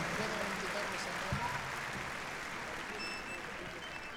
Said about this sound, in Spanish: Bien, pues estamos a escasos minutos de dar fin a la actuación de …. Y a ver el aplauso, a ver el aplauso.